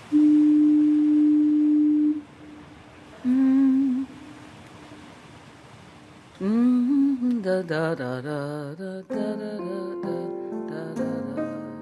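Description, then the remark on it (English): A deep foghorn sounds a long steady blast, pauses, then blows a shorter one, followed by a louder, richer wavering horn tone that swells and pulses on for several seconds. “This is a foghorn, a thing that evolved entirely because of fog.”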